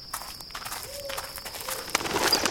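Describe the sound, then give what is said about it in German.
Rapid soft fluttering of bat wings, a quick series of papery flaps that grows busier and louder toward the end, with a faint high squeak and a thin steady whine behind. “Das waren nur Fledermäuse.”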